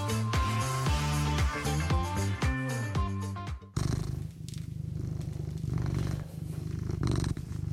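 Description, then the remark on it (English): A few seconds of melodic music cut off abruptly, giving way to the steady purr of Morrissey, a radio host's cat at CFRC 101.9 FM in Kingston, a low continuous rumble with a fine rapid pulse that carries on to the end. “you're with me and my cat, Morrissey, the good-looking and pleasant to be around.”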